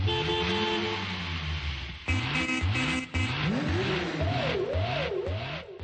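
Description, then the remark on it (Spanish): Several car engines rev and accelerate in busy city traffic in Prague, Czech Republic, loud, their pitch repeatedly climbing and dropping over a constant rumble of passing vehicles, with no voices. “La intensidad del tránsito en Praga ha alcanzado en los últimos años límites inimaginables.”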